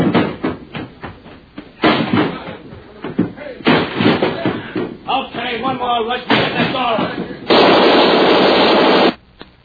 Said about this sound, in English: Yeah, but what are you going to do? Hold him off with this Tommy gun.